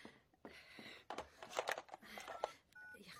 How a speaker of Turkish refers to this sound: Telefon.